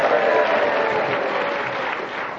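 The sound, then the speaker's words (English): Sustained applause from a studio audience, a dense wash of many hands clapping at steady loudness, fading slightly toward the end with no voices over it. “I got a bigger round of applause when he was rude about me.”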